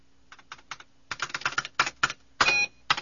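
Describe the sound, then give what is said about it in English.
Typing a command on a ramshackle computer keyboard, fairly loud: a few separate keystrokes, then a quick irregular burst of clacking keys, ending with a heavier clunk and a couple more taps. “Yamali Darm pecked through a command on the ramshackle keyboard, then turned to Luke.”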